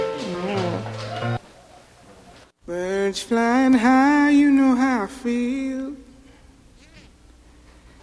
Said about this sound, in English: We're listening to music.